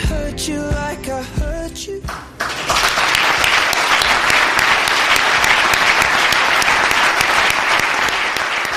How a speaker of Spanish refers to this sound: Esta era la sonora ovación que le brindaban a nuestro invitado después de más de tres décadas al frente de Anfaco Cecopesca. Una ovación que estuvo acompañada de una medalla de honor por toda una carrera dedicada a la industria del mar.